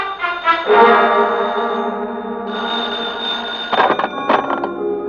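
A telephone bell rings loudly, a sustained ringing tone with a couple of sharp, rattling bursts toward the end; no one speaks.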